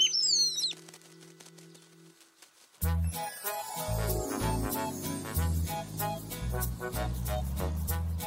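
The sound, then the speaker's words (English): A brief burst of high, sweeping bird chirps opens, followed by rapid fluttering wing flaps that continue under lively, busy background music. “Well, everyone shared their food with me, so now I can share mine with the birds.”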